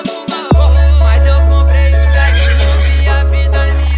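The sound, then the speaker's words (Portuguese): A horse whinnies loudly over a thumping music track with heavy bass, the shrill, wavering neigh cutting in right after a few sharp percussive hits at the start. “Eu passei, foi de cavalo.”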